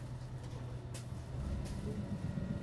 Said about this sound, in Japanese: 扉が閉まります。